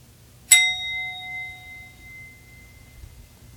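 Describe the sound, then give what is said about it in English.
A single bell is struck once, its clear ringing tone lingering and slowly fading over a couple of seconds, with a faint low rumble underneath and no voices. “Continuing to look, who exactly is the one who hears the bell?”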